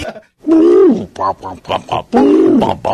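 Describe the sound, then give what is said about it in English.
Mike Tyson imitates a pigeon's coo for a guess-the-sound game: low, throaty, rolling sounds, two long swooping calls with shorter grunting pulses between them, fairly loud with no other sounds around. “it's Mike Tyson imitating a pigeon”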